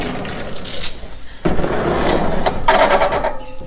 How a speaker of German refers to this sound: Achtung, die Tür nochmal.